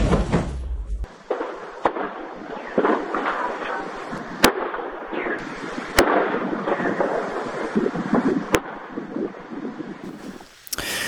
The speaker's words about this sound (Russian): Только что такое пошла взрывная волна. Там кошмар. Ой-ой-ой-ой-ой.